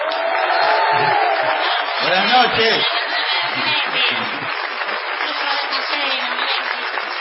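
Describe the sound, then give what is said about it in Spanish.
A crowd gives a loud, steady ovation of applause to greet a performer, with a few sliding whistles rising and falling in the middle, and a voice briefly speaking over the noise. “Me gustaron algunos silbidos que se oyeron por ahí, muy técnicamente perfectos.”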